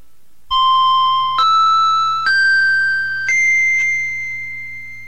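Four bright chime tones, the opening chimes of a hypnosis session recording, ring out one after another, each a step higher in pitch, overlapping and slowly fading, with a faint low hum underneath and no voices.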